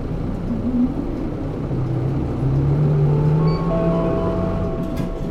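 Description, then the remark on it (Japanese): A bus pulls away from a stop, its engine rumbling steadily while a whining drivetrain tone climbs in pitch as it accelerates; no one speaks. The bus takes PASMO and Suica transit IC cards, and its next stop is Keihoku Shogakko-mae. “乗車時にパスモ、スイカなど交通系 IC カードをタッチされなかったお客様は乗務員へお申し出ください。発車します。”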